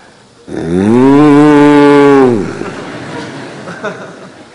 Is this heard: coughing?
no